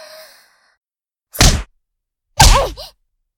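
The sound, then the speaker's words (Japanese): Two boxing punches thrown by a girl who has just started boxing land on a boy who has boxed for years, about a second apart, each a sharp thwacking smack with a brief rush of air, the second followed by a quick softer hit. No one speaks. “あれあれ？また当たっちゃったね。ほらほら、次行くよ。食らってんじゃん。”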